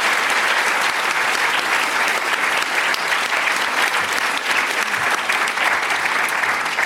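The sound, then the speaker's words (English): Sustained applause from a large audience for a panel about to begin, a dense, steady patter of many hands clapping at full volume throughout, with no one speaking over it. “So big round of applause to start for this incredible panel.”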